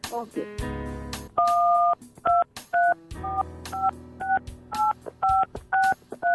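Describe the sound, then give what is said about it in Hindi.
A quick run of mobile phone keypad dialing tones as the 16 digits of a credit card number are dialed on a mobile phone, about a dozen short dual-pitched beeps in an uneven rhythm, clear, with a low background hum and faint voice-like sound between presses. “अब जल्दी से एक काम करिए, अपना क्रेडिट कार्ड उठाइए और अपने मोबाइल से अपने क्रेडिट कार्ड के 16 अंक डायल करिए ताकि ये प्राइज आपको दे सके।”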